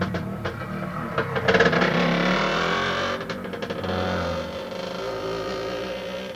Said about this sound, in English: Here's a motorcycle for you.